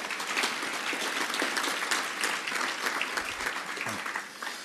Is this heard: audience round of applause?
yes